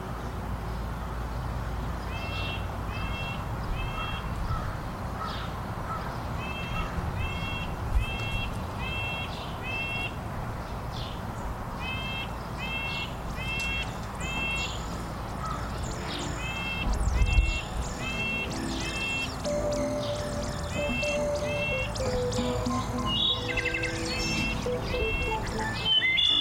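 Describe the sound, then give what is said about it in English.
A thrush gives short, repeated call notes in quick clusters throughout, set against a steady low outdoor rumble with other faint bird sounds. “In this case, the thrush is saying, "Hello, I'm here, I'm all right."”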